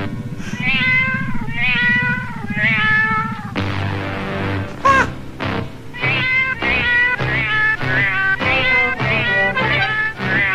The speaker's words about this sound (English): the cat is singing the Meow Mix jingle to the spaceship that's repeating it back